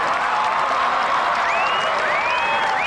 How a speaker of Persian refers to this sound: تبریک میگم ناجی پرنده، امروز تو شجاعتتو ثابت کردی. همه تشویق کنید ناجی پرنده امسال.